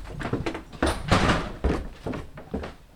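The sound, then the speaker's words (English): A freezer door in the basement of a house in Providence is pulled open, with a series of soft thunks and clunks and a brief rushing, rustling swell amid the handling sounds. The freezer is filled with plastic bags and milk jugs of insects. “Dave opens the door to his freezer.”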